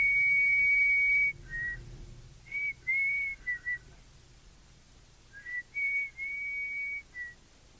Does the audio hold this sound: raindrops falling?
no